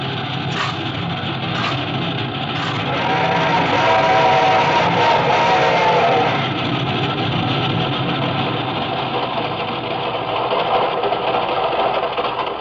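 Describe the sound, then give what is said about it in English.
A steam train rumbles steadily along the rails, climbing a mountain at slow speed, with a few rhythmic knocking beats early on over a continuous, fairly loud mechanical clatter. No one speaks. “This train ain't going very fast.”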